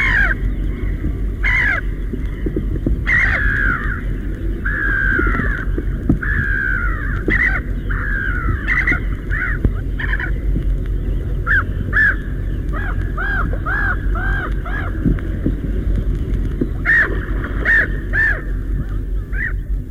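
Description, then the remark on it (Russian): Black-headed gulls, hunting and diving into the water from a height, cry and squabble in a steady stream of harsh, overlapping calls, some loud, others softer, over a constant low rumble of wind or water. “На такой охотятся речные чайки. С высоты бросаются в воду, кричат, ссорятся.”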